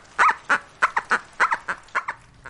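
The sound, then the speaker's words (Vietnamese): A child's toy dog, played with by a mother and her child inside a hut in Soshanguve, South Africa, as rain and thunder continue, lets out a quick series of about ten high, squeaky yaps in an uneven rhythm, fairly clear, with no one speaking. “Bà mẹ đang cho con chơi đùa một con chó đồ chơi.”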